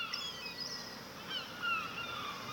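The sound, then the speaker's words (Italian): Seagulls cry in scattered, overlapping calls over a steady wash of ambient noise, like wind or surf. The calls are fairly soft, and no one speaks. “Senti i gabbiani? Sei al mare?”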